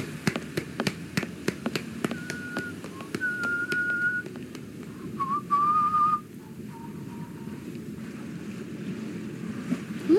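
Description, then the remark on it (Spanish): A harbour soundscape while approaching the port: a steady wash of waves and wind with boat noise, quick clacking taps early on, and several thin high whistles drifting over the water. “Nos acercamos al puerto.”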